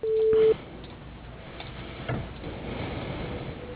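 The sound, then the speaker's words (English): A single steady electronic beep, the phone voicemail recording tone that follows the greeting, sounds for about half a second at a mid pitch, then gives way to faint background noise and a soft knock. “Begin recording at the tone.”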